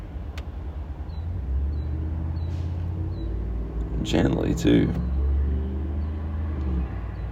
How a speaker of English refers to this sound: Boy, the wind loves my car door.